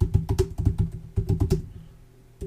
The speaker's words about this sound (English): Sorry, my typing sucks.